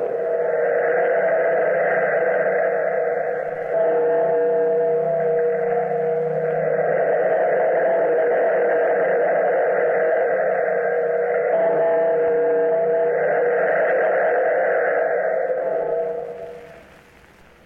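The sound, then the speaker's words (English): A large bell, pulled by a bellkeeper in the Weird Circle radio drama, tolls slowly, each heavy stroke blending into a long, humming metallic ring that sustains steadily before fading out at the end; no voices, with a slightly lo-fi, echoing tone. “Bellkeeper, pull the bell.”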